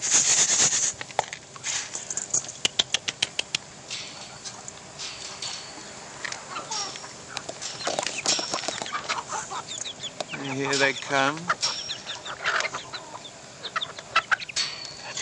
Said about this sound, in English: Let's go and throw this to the chickens and see if we can get some chicken noises going. Let's walk back across the yard. All right, girls.